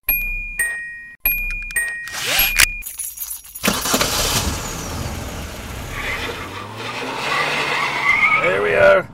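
A few short chiming tones open, then a loud car roars with rushing road noise, and its tires squeal and skid in rising, wavering screeches toward the end.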